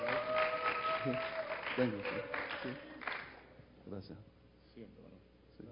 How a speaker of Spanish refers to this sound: Sí. Gracias. Un aplauso, por favor.